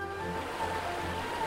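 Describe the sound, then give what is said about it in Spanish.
River water rushes and burbles steadily throughout, a continuous, fairly even wash of sound, with faint sustained tones humming softly underneath. “Ve a bañarte al río, yo me encargaré del resto.”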